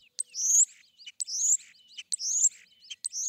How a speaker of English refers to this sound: How well can we humans distinguish these changes in birdsong? It's pretty challenging for us to distinguish these differences in the birdsong because we're listening with human ears, and the human ear is quite different from the bird's ear.